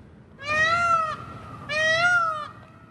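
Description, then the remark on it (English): A peafowl gives two loud, drawn-out wailing calls, each about three-quarters of a second long and rich in harmonics, separated by a short pause, with no one talking. “Like right now is probably the loudest season that we have of them”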